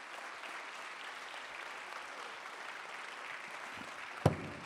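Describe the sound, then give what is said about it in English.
A church audience claps their hands to God in a steady, dense wash of applause that holds an even level throughout, with one sharper, louder clap standing out near the end. “Let's clap our hands and shout to God a little bit.”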